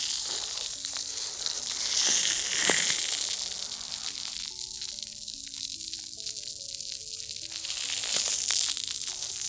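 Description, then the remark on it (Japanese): Carbonated foam fizzes steadily, a dense, bright crackle of tiny popping bubbles that swells slightly at moments, with faint steady low tones humming underneath and no voices. “なんか、炭酸泡が、なんか、炭酸泡が弾けすぎて、痛いとかはないですか？”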